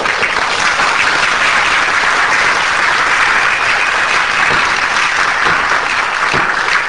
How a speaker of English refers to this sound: A great applause from the bleachers. From those whom you call yokels.